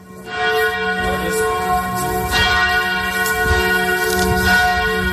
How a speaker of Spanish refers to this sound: Este es un sitio en el que, junto al Cenáculo, está también lo que la tradición judía moderna dice que es la tumba de David. Hace muy poquito, hemos escuchado las campanas que son el sonido con el que los cristianos llaman a la oración.